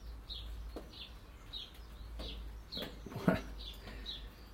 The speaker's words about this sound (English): Listen to that wee robin.